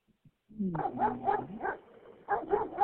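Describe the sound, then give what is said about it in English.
A dog barks in a quick series of short, high yips, a brief pause, then another burst of rapid yaps, moderately loud with no talking. “Oh, a dog. Look at that.”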